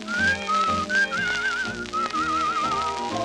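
A bright, cheerful whistled melody with gentle vibrato carries over a full instrumental accompaniment, the tune rising and falling in smooth phrases throughout.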